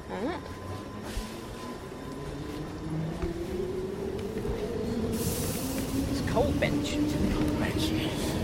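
A Piccadilly line underground train pulls away from a platform, its motor whine rising steadily in pitch over a continuous rumble and hiss that grows louder as it accelerates. No one speaks over it.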